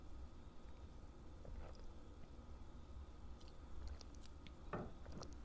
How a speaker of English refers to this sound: I need a sip of my tea.